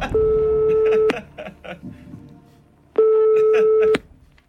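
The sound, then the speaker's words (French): A phone-a-friend call on the quiz show Qui veut gagner des millions rings out on the line: two long, loud ringback tones about a second each, separated by a pause filled with faint background murmur. “Bon, vous savez, vous avez encore tous vos jokers, hein, si vous voulez qu'on lance un coup de fil à un ami. Oui. Ok, alors on y va, téléphone.”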